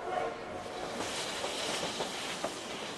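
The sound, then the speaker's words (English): A steam train runs alongside the Animas River, spewing a cloud of black smoke, rumbling steadily with a broad hissing, clattering noise that stays constant throughout, fairly quiet, with no voices over it. “The train snakes alongside the Animas River, spewing a cloud of black smoke.”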